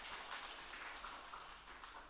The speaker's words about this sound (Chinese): 掌声，我主我神，哈利路亚！